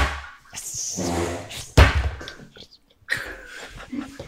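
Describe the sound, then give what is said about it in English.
Objects are slammed down onto a table: one loud, heavy thud midway through, followed by a softer knock and scattered clattering, amid muffled rustling and background noise. “Have you just slammed everything down on the table?”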